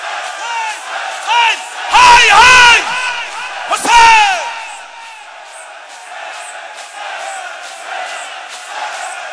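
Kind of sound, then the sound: crowd, crowd shouting loudly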